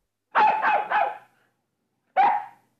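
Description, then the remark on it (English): A dog, Nana, in the garden looks at the sky and barks three times in quick succession, pauses, then gives one more sharp bark. The barks are loud, with no talking. “In the garden, Nana looks at the sky and barks.”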